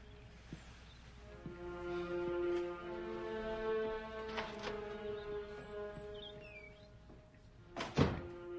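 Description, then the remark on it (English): Scattered knocks on a door sound over a low, sustained musical drone: a faint pair in the middle, then one heavy thump near the end. “Answer your door.”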